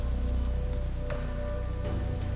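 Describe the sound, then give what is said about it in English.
Steady heavy storm rain pours down in a dense, continuous hiss, with scattered drops pattering on a surface and a low rumbling undertone throughout. “She was relieved to hear the storm instead of the scream that she thought she had heard.”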